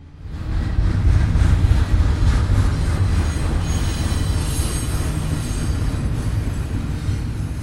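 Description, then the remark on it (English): A train rumbles past behind former warehouses in an industrial area of Reno, its heavy low roar steady throughout, with faint high wheel squeals on the rails. No one speaks. “A train rolls behind once gray warehouses that are now adorned with colorful murals and bright fronts.”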